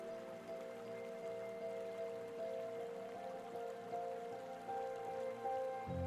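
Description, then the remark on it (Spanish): Soft, steady sound of spring water, not sea waves: a spring of pure, clear water, a continuous gentle trickling patter and babble with no pauses, fairly quiet and even throughout, with a faint tonal hum underneath. “Pronto escuchas un suave sonido de agua, pero esta vez no proviene de las olas del mar.”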